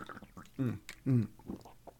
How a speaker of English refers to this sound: So enough about talking about water. Hold on. I need to drink some of this. Hold on.